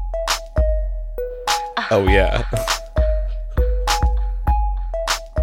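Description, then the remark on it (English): The opening of a song: a plucked, minor-key melody steps downward over a steady electronic hip-hop beat with punchy drum hits and deep bass, looping twice; a voice briefly sings over it midway. “I also feel like that descending minor plucky thing over electronic hip hop beat was like just commonplace in the 2000s.”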